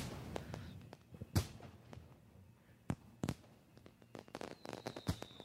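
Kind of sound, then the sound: sound effect, fireworks exploding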